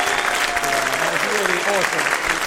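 Loud, dense audience applause for Tommy Tiernan at the Edinburgh Fringe, steady clapping while a voice speaks over it without pause.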